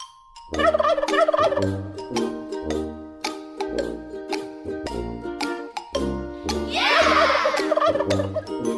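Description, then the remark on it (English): A turkey gobbles in one loud, warbling burst near the end, cutting over a bouncy, rhythmic musical jingle that plays throughout with no talking, the opening of the radio game show Turkey or Hawk. “And now, it's Turkey or Hawk, a Hawk and Crowder show exclusive.”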